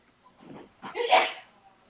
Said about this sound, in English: Who's sneezing? That would be my wife in the background. Sometimes you got to sneeze.